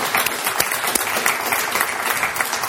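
An audience applauds steadily, a dense wash of many hands clapping at an even, fairly loud level throughout, with sharper individual claps popping out now and then.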